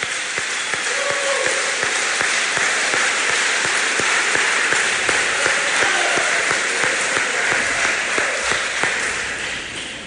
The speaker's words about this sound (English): All right, students, if we could have one more big round of applause for all award winners here today. Nice job, students.